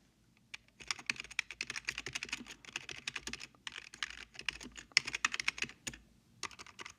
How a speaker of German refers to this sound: Regie tippt so schnell ein ins Google Translate.